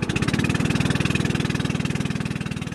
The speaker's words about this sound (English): Our boatman chugs up the channel in question, the Hoosahong, passing a few other fishermen along the way, and just a few hundred meters later, we come to the proposed Don Sahong site.